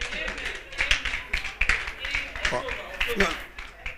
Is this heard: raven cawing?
no